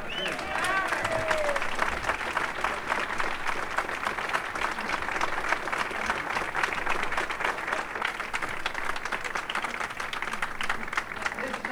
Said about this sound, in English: Let's hear a round of applause again.